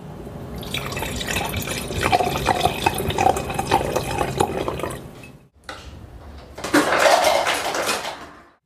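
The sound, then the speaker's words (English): Water pours steadily into a glass for about five seconds, stops briefly, then a second, louder splashing pour follows, with no voices. “Water's fine for me.”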